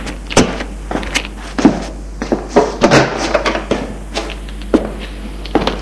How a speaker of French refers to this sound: Elle ouvre une porte.